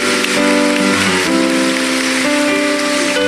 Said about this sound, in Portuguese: São José, mais uma vez, uma salva de palmas, né?